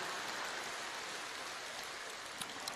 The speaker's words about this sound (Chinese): 鼓掌的怎么都是女士了？